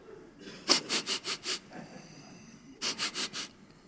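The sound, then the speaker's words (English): A voice imitates a child's sniffling: a quick run of five sharp, wet inhaled sniffs, a pause, then four more, fairly loud, with no talking. “And sometimes we would start sniffling because we got quiet, but we wanted people to know how deep we hurt, so we sniffled.”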